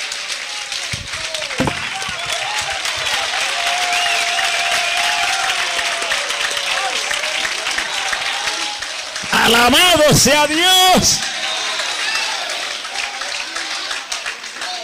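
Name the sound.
audience applauding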